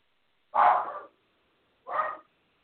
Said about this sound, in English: I think my dog is also going to start barking.